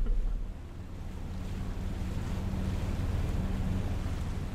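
Heavy rain and wind on a boat deck make a steady, dense hiss, while a low engine drone with a faint humming tone runs underneath. No one speaks.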